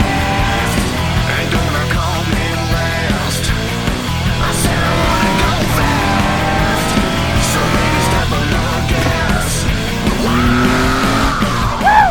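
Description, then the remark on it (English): Race cars braking hard into turn 7 at the end of Holman Boulevard, running door to door: loud engine whine with shifting pitch throughout, layered with squealing tires and rising revs as the cars push through. “On the brakes into turn 7 at the end of Holman Boulevard, door to door.”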